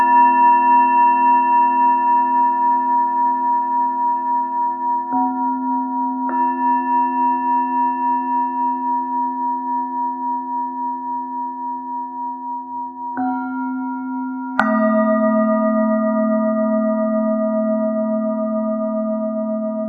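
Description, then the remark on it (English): Singing bowls struck at uneven intervals, about four fresh strikes landing over an already ringing, shimmering drone, each tone sustaining long and blending with the others; no voices. “Do you want to play the randomness bowls or the bowls and bells?”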